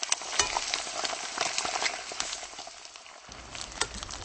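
Steady crackling sizzle of fat from sausages grilling at a street kiosk in the centre of Prague, Czech Republic, dense and continuous with sharper pops scattered throughout, fairly loud with no talking.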